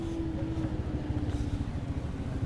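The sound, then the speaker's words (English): A motorcycle engine, ridden by armed men around a mostly empty town, drones steadily, a low rumbling growl with a constant hum on top, holding an even loudness through the short stretch with no one speaking. “The noticeable thing about this place now, not just the men, the armed men going around on motorcycles because it makes them less of a target, is that the threat feels much closer.”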